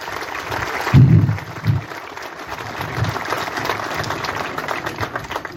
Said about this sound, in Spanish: que pido un aplauso porque realmente también ha trabajado mucho en esto.